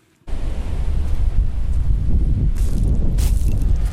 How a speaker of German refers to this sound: Raus aus dem Wind am weiten Sandstrand